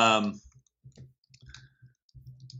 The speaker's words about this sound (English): Hold on. You can hear me furiously typing away.